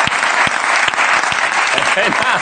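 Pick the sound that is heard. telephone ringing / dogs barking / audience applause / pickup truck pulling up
audience applause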